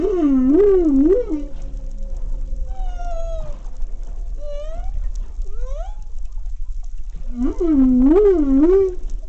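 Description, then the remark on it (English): A male humpback whale sings during mating season, its song rising and falling in long, wavering moans and upward sweeps, with a loud repeated warbling phrase at the start and end over a low underwater rumble. “Male humpback whales produce complex vocalizations during mating season,”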